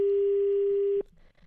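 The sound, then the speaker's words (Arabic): A phone line rings as a live Radio Aswat show calls the same number again to reach a school's educational director: one steady, loud electronic tone lasting about a second, then cutting off abruptly into faint background hiss. No one speaks. “إذن قبل الفاصل كنا اتصلنا بالمديرة التربوية تيقول السيد اللي جاوب في التليفون أنها مشغولة يمكن أيضا المعلومة وصلت للمدير ديال المؤسسة نعاود نتصلوا في نفس الرقم.”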